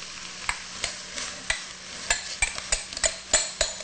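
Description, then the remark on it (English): A spoon scrapes and stirs pumpkin meat into a pot of sautéed onion, giving sharp, irregular clinks and scrapes roughly every half second over a soft steady sizzle, with no voices. “And now we're ready to add the pumpkin meat.”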